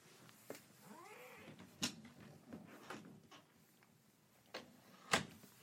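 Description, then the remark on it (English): A cat lets out a single drawn-out meow while hitting a closed closet door to get in and out, the sharp knocks and bumps ringing out repeatedly at irregular intervals, with no one talking. “So she constantly wants to keep coming in and out, and she hits the door and she yells and things like that”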